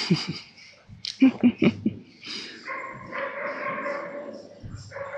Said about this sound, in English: We have been in the middle of a complex dog conversation from one side of the lake to the other. We just don't know what they're saying. Nothing good, I'm sure.